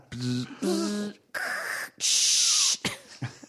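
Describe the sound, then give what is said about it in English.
A voice imitates a dial-up modem connecting: a few tonal beeps and warbles, then loud bursts of harsh hissing static broken by short gaps, ending in a sputtering crackle. “I'll do my car noise. My car dial up internet.”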